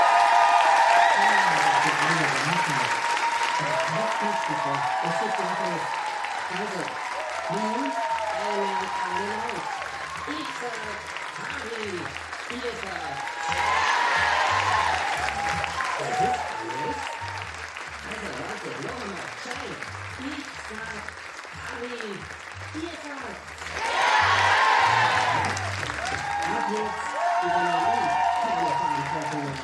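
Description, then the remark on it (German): A large audience breaks into sustained applause and cheering to welcome three hosts onto the stage, a dense wash of clapping that swells in bursts. Voices shout and talk over the noise throughout. “Mit einem riesigen Applaus, bitte begrüßt mit mir Gabi Hiller, Philipp Hanser und Paul Pizzerra und den Havidere Podcast.”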